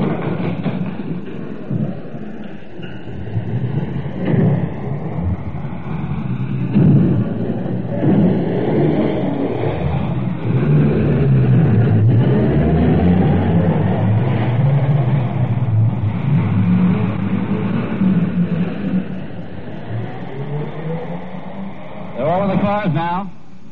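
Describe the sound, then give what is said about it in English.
Emergency vehicles, an ambulance and a car, rev their engines and pull out of a station in London in response to an air raid warning, a loud, continuous heavy rumble with engine tones climbing in pitch as they accelerate, lasting throughout before easing slightly near the end. “They're out of the station already.”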